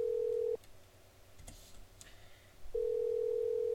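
Telephone tones over a line as a toll-free number is dialed: a steady, loud electronic tone breaks off, a couple of faint clicks follow in the quiet gap, then the tone returns. No one speaks.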